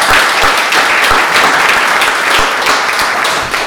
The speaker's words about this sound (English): So if we can, let's please give him a round of applause for his vote.